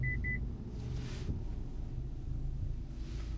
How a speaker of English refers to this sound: I don't see anything that would have caused that beeping noise.